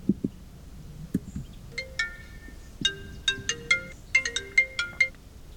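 telephone ringing tone

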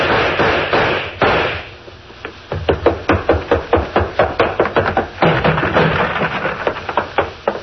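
explosions

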